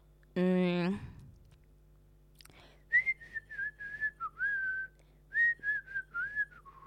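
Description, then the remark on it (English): A person whistles a short, bouncy melody of about a dozen clear notes in two phrases, fairly loud, after a brief vocal sound at the start; the tune is from a common commercial. “But I want to whistle it because I feel like you don't hear when I whistle.”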